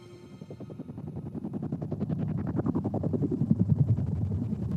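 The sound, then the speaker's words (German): Rotors of waiting helicopters whirl with a rapid, steady thumping pulse that grows louder over several seconds, droning with no voices. “Unsere Gruppe teilt sich zwischen den Hubschraubern auf, die mit wirbelnden Rotoren warten.”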